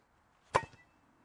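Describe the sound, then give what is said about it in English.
A single sharp, hollow whack of a club striking a large basketball off a tee in a practice exercise called the basketball drill, followed by a couple of quick, softer rebounds before the sound dies away. No one speaks. “It's called the basketball drill. Hit it off a tee.”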